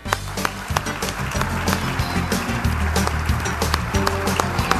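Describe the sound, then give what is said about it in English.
A crowd claps steadily for several seconds, the dense patter of many hands holding an even loudness, with a low droning tone running underneath. The audience is applauding to welcome the president of the National Corn Growers Association. “So a nice round of applause.”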